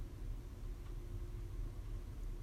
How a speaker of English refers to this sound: You may be able to hear a slight hum in the background.